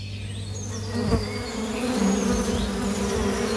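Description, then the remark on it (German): Steady buzzing of bees droning over meadows in Paderborn, a continuous low hum that swells slightly, with faint bird chirps in the open air behind it. “Noch summt und brummt es auf den Paderborner Wiesen.”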